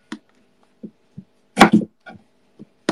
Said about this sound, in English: I'm just chopping some cherry tomatoes. This is not an authentic burrito bowl, by the way. This is just how I like it. So I make, like, the pico de gallo, which is, like, the tomato salad, but I make it my way.